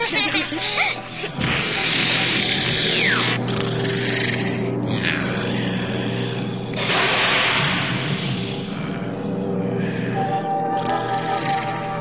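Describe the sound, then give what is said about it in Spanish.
A huge bear snoring loudly, a deep, raspy rumble that rolls on in long, growling breaths with brief dips between them and a steady low drone underneath. “¡Es un oso roncando!”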